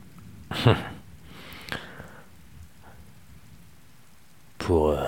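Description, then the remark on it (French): Steady rain patters outside a mobile home during a thunderstorm, swelling in a few louder bursts before settling into a soft hiss; a voice starts talking near the end. “je suis dans mon mobilhome. Il y a l'orage dehors qui tonne.”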